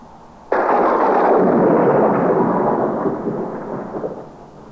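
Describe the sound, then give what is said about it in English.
A sudden loud crack of thunder bursts in at once during a rainstorm around a plane in flight through thick black cloud, then rolls on as a long, heavy rumble that slowly fades, with a steady hiss of rain underneath. No one speaks. “Then the rain started. Suddenly, there was a flash of lightning.”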